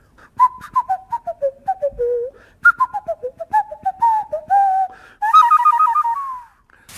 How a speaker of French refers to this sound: Ensuite, vous avez du sifflet de nez de la forêt équatoriale du Brésil. Alors, on souffle avec le nez et on fait ce qu'on veut, quoi.